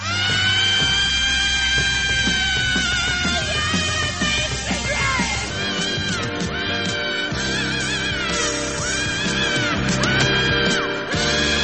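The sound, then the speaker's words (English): A raw, sustained rock scream wails over a loud, dense band in a radio station ident, with the strained voice holding and bending its pitch almost continuously for around twelve seconds, forceful. “CFMU, proponent of the rock scream since 1978”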